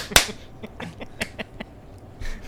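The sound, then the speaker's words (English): A group claps together on a count of three: a sharp, loud burst of hands clapping, followed by a ragged scatter of individual claps trailing off over the next second or so, not quite in unison. “Everybody clap on three.”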